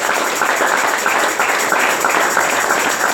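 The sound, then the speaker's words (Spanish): A church audience applauds steadily in praise of Jesus, a dense, loud wash of many hands clapping at once that holds its level without pause for a few seconds, with no distinct voices standing out. “Y anoche, gloria a Jesús, gloria a Jesús, ese aplauso.”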